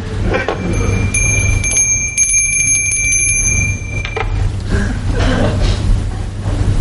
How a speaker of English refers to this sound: Aren't you going to ask me why I rang the bell? Why did you ring the bell? Why do you think I rang the bell?